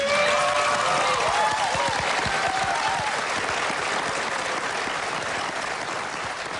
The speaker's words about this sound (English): there's Senator Bernie Sanders speaking to Trump voters in McDowell County, West Virginia, clapping at all of these policies.